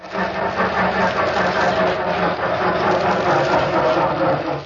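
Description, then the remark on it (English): A car engine cranks over and over without catching, a steady rough grinding whir that churns on for several seconds at an even, fairly loud level with no voices. “Darn car. Makes me so darn mad I'd like to give it a good kick in the...”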